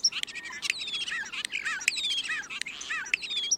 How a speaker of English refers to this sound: Consider the lowly starling.